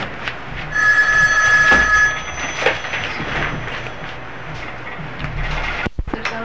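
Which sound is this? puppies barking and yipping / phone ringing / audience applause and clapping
phone ringing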